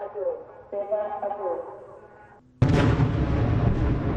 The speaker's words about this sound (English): As smoke filled the sky over the Gaza skyline on Wednesday, a red alert warning was heard in southern Israel, followed by two loud bangs from explosions.